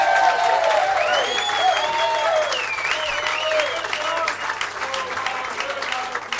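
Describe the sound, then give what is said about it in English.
Dense, steady applause from an audience fills the whole stretch, loud and sustained, with shouted cheers and voices rising and falling over the clapping. “If you could put your hands together, please,”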